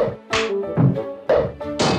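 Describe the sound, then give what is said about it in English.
A series of about four loud, hollow wooden knocks and thwacks at uneven intervals, each with a short resonant ring, as Pinocchio's overly long wooden nose hits things when he moves his head. No voices. “Pinocchio's nose is too long. It hits things when he moves his head.”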